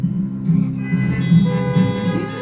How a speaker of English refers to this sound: Not every pastor gets a response from the congregation in the form of worshipers honking their car horns. It's one more way people are creating community in this time of social distancing.